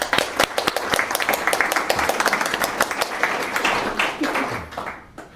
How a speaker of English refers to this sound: So guys, a round of applause for them.